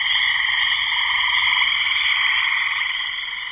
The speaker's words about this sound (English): But as soon as it becomes more than like four or five, then you could say, no, that's a two instead of a one. And then when you have a full chorus of frogs or toads, then that's a three.